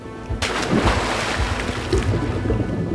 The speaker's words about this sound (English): Then he splashed into the cold water. A large stone tied to his feet pulled him down toward the bottom of the sea.